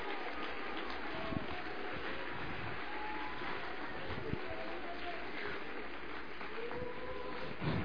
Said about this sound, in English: Oh, come on, let's applaud Him.